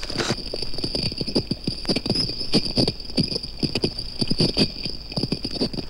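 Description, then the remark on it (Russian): Coral fish scrape and crunch as they break off and chew pieces of coral, a steady run of sharp, irregular clicking scrapes, fairly loud, over a faint constant high-pitched hiss. “Коралловые рыбы, обламывая и пережевывая кусочки кораллов, производят своеобразный чиркающий звук.”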